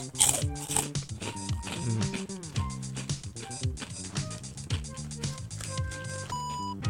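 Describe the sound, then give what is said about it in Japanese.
Bakauke rice crackers being crunched: a steady run of crisp, brittle crunches with scraping texture, mixed with a mumbling, voiced hum from someone chewing and talking at once. “でもおせんべい系は音いいよね。”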